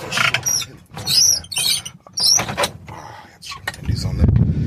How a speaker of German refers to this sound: Da klingt ja auch so ein bisschen diese Vorfreude mit, dieses leichte Schlüsselrascheln und knack, dann geht der Strandkorb dann auf.